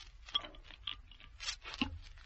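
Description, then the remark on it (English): A bottle of Coca-Cola being opened: a few small clicks and taps, then a brief fizzy hiss, all faint and with no one talking. “Open the bottle.”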